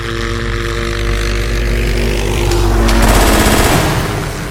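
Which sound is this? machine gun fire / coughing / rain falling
machine gun fire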